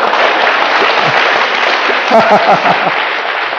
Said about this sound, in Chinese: 赞成的拍手。